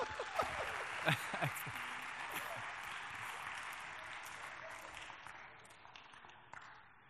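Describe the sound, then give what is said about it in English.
A crowd applauds steadily to welcome their pastor as he is introduced, a dense wash of many hands clapping that holds for several seconds before gradually thinning out, with a few brief shouts or cheers mixed in near the start. “give him a hand clap. Let him know we appreciate him.”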